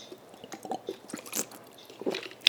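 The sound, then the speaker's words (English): Quiet mouth sounds of someone sipping water: small wet clicks and gulps in an uneven run, with a slightly louder swallow near the end and no talking. “I drink water, bitch.”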